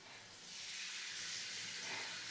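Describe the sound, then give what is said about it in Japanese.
Steady hissing spray of shower water running continuously while waiting for it to warm up, a broad bright rush that swells slightly after the start and then holds even with no voices. “シャワー温かくなるまでちょっと待ってね。”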